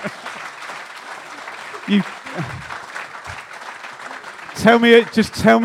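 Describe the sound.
An audience claps steadily in a dense, continuous patter of applause, with a couple of voices rising briefly within it and louder, clearer speech breaking in toward the end.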